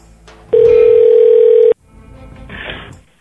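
A steady telephone dial tone, heard while a prank call is being placed, holds for about a second at a constant, loud pitch, then cuts off abruptly, followed by quieter background noise and a brief rustle.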